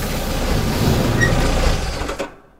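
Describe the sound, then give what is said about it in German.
In the morning, a bus arrives and rumbles steadily, engine and mechanical noise filling the air, then a brief clunk as the bus driver opens the door before the sound fades out. No one speaks. “At last it arrived and the bus driver opened the door.”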